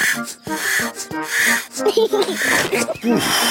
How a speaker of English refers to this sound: Come on, George. Let's get some air into this paddling pool. Daddy Pig is pumping up the paddling pool.